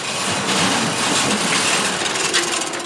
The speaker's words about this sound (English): This metal garage door opens into 2,000 square feet of empty space.